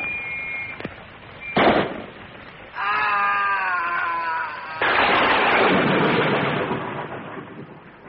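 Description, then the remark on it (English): Two sharp gunshots crack out a moment apart, followed by a loud wavering, bleat-like tone and then a long rushing burst of noise that fades away. No one speaks. “did he shoot you?”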